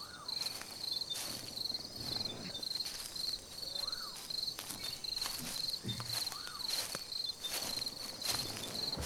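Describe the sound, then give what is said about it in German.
Crickets chirp in a steady, continuous high trill, joined by soft rustling footsteps moving through grass and occasional faint sweeping sounds on a quiet night in total darkness. “Nur die Grillen sind zu hören und geheimnisvolle Schritte im Gras.”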